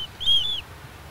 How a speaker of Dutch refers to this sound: Ik hoor het beetje op de achtergrond. Kan je het horen? Ja, je hoort het. Je slaapt echt lekker. Mereltjes.